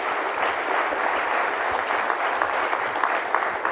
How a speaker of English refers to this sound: I also want to thank all of the volunteers and organizers for this awesome event. Just give them a round of applause, please.